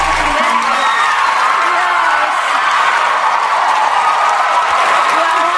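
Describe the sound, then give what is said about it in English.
A large talk show crowd cheers and applauds wildly as the host is welcomed, a dense, steady roar of clapping and shouting voices that stays loud and constant for several seconds. “Crowd goes wild.”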